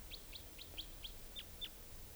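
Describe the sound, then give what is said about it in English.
A type 2 wild bird coming in around 8 o'clock in the evening, near calling decoys, gives a steady series of about seven short, high, sharp chirps. They are evenly spaced and fairly faint over a low background rumble, with no voices. “Trying to find, okay, here's the type 2 wild bird.”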